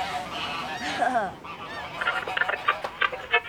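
Geese honk in a flurry of nasal, overlapping calls, with a sharper cluster of rapid honks building toward the end, with no voices present.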